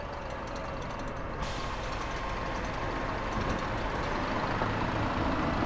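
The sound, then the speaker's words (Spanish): A large bus idles at a stop with a steady, heavy engine rumble, and a burst of air-brake hiss follows as it pulls up and settles. No one speaks. “Cogeremos juntos el autobús. ¿Qué te parece? Pues mira, ya está aquí.”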